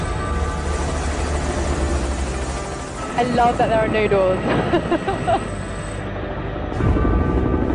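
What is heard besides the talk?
helicopter in flight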